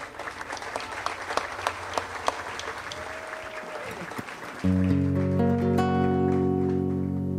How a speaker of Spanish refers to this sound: A propósito de Honduras, quería pedir un fuerte aplauso para el maestro Camilo Corea, que me acompañó allá.